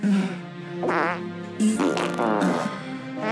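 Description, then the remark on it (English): A loud fart sound effect stretches over a few seconds, buzzy and reedy, its pitch wobbling up and down with a couple of sharper bursts along the way. “If I said Mozart, do you have Amadeus to farting?”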